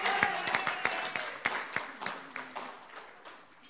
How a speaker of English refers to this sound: So I'd like you all to give the streaming team a wonderful, wonderful round of applause.